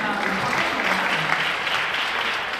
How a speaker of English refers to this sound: I see some people clap in silence. You can clap loud on that.